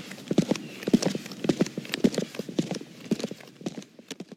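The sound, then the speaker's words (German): Steady footsteps click and echo on cobblestone pavement in Berlin at night, under a leaden sky in sharp wind, a brisk regular rhythm of hard impacts, moderately loud, with no voices. “Wilhelms Schritte hallten durch das nächtliche Pflaster Berlins.”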